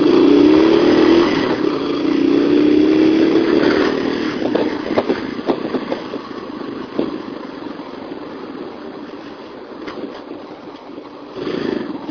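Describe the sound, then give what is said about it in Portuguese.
A motorcycle used for work revs loudly and climbs in pitch for a few seconds, then settles into a lower rumble with scattered clatter and road noise as it rides through city traffic in São Paulo. No talking. “A maioria dos motociclistas de verdade que usam a moto para trabalhar, como eu, como várias pessoas no meu serviço, ficam rezando por estatística.”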